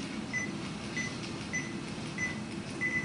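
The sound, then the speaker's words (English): Short, faint electronic beeps repeat in a steady pattern, several paired chirps over a low background hum: the beep tones of an audio recorder as its folder button is pressed, the double beep meaning folder A is selected. “But if I press the folder, you hear beep tones, so like this.”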